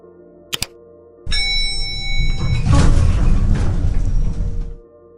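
Two quick clicks, then an elevator ding rings out as the elevator doors rumble and slide shut after the close-door button is pressed, for about three seconds before stopping with a soft thud.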